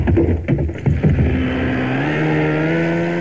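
A speedboat engine roars, sputtering briefly before settling into a loud, steady drone with a rising pitch as it accelerates; the speedboat had been moored alongside a pier and turns round in a wide arc, heading for the beach. No one speaks.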